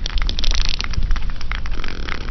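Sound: sperm whale echolocation clicks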